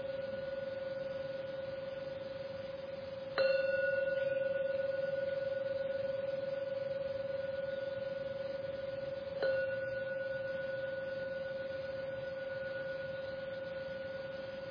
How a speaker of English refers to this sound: Going to ring the gong 3 times. When the gong finishes ringing for the 3rd time, come out from your meditation.